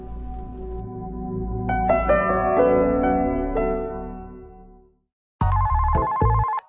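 A melodic electronic chime plays and fades out, then after a brief silence a telephone rings loudly in one short, buzzing burst, a wrong-number call. No one speaks.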